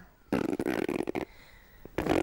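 A loud, close burp rumbles for about a second, followed by a quiet pause and the start of a second belch cut off at the end.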